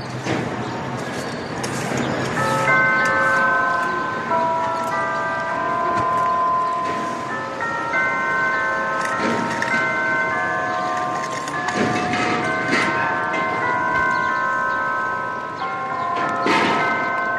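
A church bell rings repeatedly in the Plaza Mayor of Madrid, Spain, on a Sunday morning, its strikes overlapping into sustained, shimmering tones that linger and decay, over a steady murmur of outdoor ambience.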